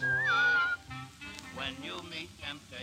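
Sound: person whistling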